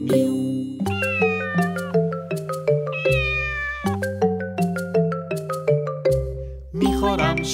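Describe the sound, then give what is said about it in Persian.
Repeated cat-like meows in a song about a lazy cat, set to a bouncy musical backing with a steady bass line and bright chiming notes; the meows follow the melody's rhythm and sound imitated or synthesized rather than a real cat. “من یه گربه تنبلم، میو میو میکنم میو میو.”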